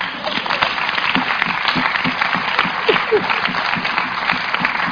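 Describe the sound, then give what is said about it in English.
A crowd applauds steadily for several seconds, a dense rattle of many hands clapping at once with a few voices faintly calling out underneath. “Clap.”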